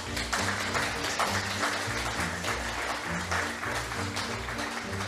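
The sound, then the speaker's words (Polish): Sustained applause from an audience, a dense wash of many hands clapping steadily at fairly loud, even volume for several seconds, with no voices standing out. “Każdy musi otrzymać należną porcję oklasków”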